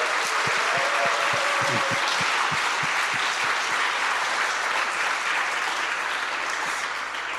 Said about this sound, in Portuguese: Por isso, uma salva de palmas à Mensagem de Lisboa, se for favor.